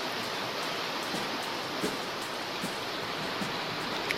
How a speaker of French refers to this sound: Vous entendez la pluie?